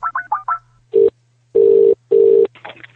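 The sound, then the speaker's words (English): Four quick touch-tone beeps of a phone being dialed to call Reading Football Club, then three loud, buzzing ring tones with short gaps between them, and a faint voice just beginning at the very end. “Now, before we go to the next and final part of the show, I just want to make a quick phone call.”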